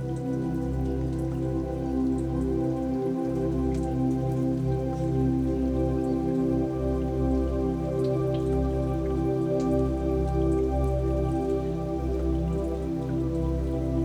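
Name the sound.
raindrops falling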